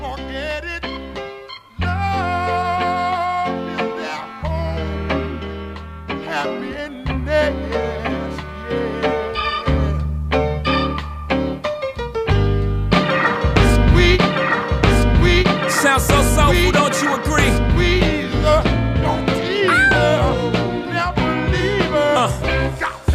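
A hip-hop track plays loud and continuous, with punchy bass hits, a steady rhythmic beat and layered melodic samples filling the mix; the arrangement grows busier partway through, with no talking over it.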